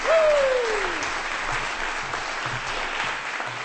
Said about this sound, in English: Well-deserved applause. Nice job.